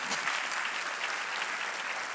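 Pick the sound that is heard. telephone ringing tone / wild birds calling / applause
applause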